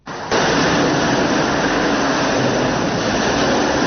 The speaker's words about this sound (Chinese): 在池黄高铁塘地岭隧道内，机身轰鸣，各种大型机械紧张作业，高铁建设者们正在使用项目上创新优化的二级围岩全断面带阳拱开挖工法进行长子面施工作业